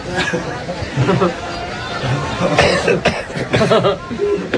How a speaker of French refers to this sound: Pourquoi on tousse? Ça doit être le sésame. Ou la moutarde, plutôt.